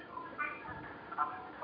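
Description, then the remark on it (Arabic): Faint, muffled sound of a caller's television comes through a narrow telephone line during a phone-in call, with indistinct voices rising in two brief swells against a low background hiss. “اخفض صوت التلفزيون.”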